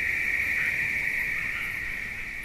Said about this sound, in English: Take the state park surrounding Krauss's studio, for example. First, the insects come in, and the insects start about August, late August, and they run through December.